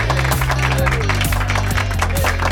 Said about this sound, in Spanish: Aplausos para vosotros.